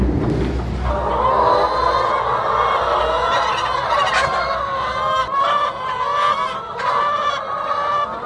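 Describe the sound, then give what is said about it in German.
A dense, steady chorus of many organic chickens clucking and squawking together on a farm with 8,000 hens in four halls, loud and continuous throughout, with the reverberant feel of a large indoor hall and no voices. “Der Hühnerkönig hat 8000 Ökohühner in 4 Hallen.”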